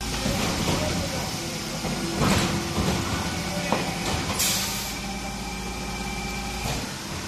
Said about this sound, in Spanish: El de un camión recogiendo basura en una calle de A Coruña, eso sí, a unos metros la policía no solo escoltándolo, sino también, por lo que parece, vigilando que efectivamente se esté cumpliendo esa recogida.